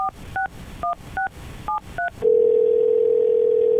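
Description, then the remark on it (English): A quick run of seven touch-tone telephone beeps dialing a number, followed by a steady, loud ringing tone on the line. No one speaks. “All right, well, let's get her on the phone.”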